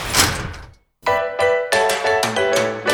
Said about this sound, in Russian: Осторожно, двери закрываются.